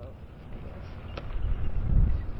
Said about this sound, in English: It's a cold and windy winter day on Mackinac Island.